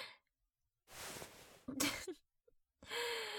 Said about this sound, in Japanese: はぁはぁ、しすぎっしょ。